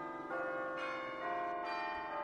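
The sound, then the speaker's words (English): Church bells peal steadily, fresh strikes landing every half second or so and blending into a dense, ringing wash of overlapping tones, with no voices present. “But this morning, as the sun rose, I saw the bells and I heard the bells.”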